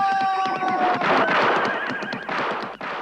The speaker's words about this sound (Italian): E adesso, ippiù, al galoppo cavallo! Via come il vento!